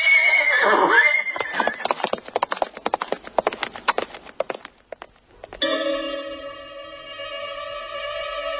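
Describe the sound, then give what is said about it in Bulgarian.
A horse whinnies loudly, then its hooves clip-clop in a quick, steady rhythm for several seconds before stopping; a sustained ringing tone follows. No one speaks. “Дай коня си на другаря ми да го вържи за това нехраст, че да не се вижда от пътя.”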